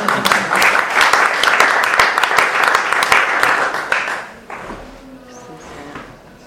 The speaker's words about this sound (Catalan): Jo aplaudeixo, m'agrada molt.